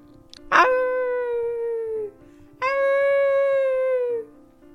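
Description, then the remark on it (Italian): Two long, mournful howls with a sharp yelping start, each held for over a second and slowly falling in pitch, loud, like a wolf crying in distress. “Ma cos'è questo rumore? Sembra che piange. Lupo? Ma lupo, cosa ci fai qui da solo? E perché piangi così tanto?”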